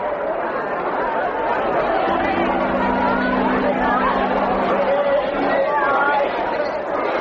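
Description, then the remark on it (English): A dense crowd gathered for Carousel chatters continuously, many overlapping voices blending into a steady, loud murmur, with a low sustained hum rising underneath partway through. “Look at the crowd.”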